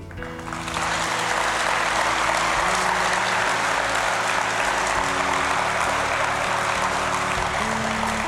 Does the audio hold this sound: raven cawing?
no